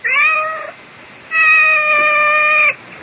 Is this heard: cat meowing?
yes